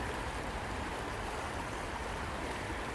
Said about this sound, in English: I think it's very deep. I know McCulkin's got a swollen stream, I can't remember what you called it up in Scotland. We've got all one word, we call it a beck. Down this neck of the woods, we call it a stream or a brook.